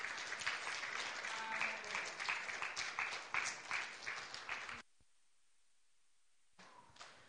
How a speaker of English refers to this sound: Thank you so much for your worship. Appreciate it. Let's just give them a clap offering and the Lord a clap offering.